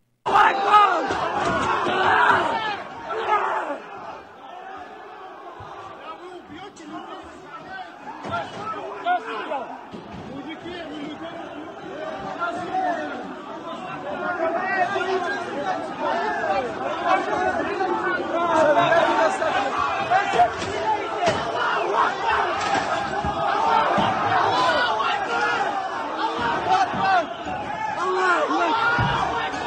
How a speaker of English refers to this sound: Here's another clip of the total breakdown of law and order as the Muslims storm the airport terminal in search of Jews. Watch this.